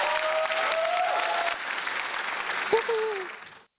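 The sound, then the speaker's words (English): A steady wash of clapping from a sizable crowd runs for several seconds, with a few whoops or tonal cries rising above it, then quickly fades out. “Big round of applause for one of my favorite partners.”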